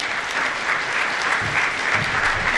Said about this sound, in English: So, you guys, thank you. I'll give them another big round of applause.